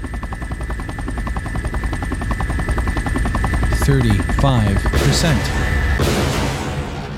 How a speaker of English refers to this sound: These choppers should finish me off.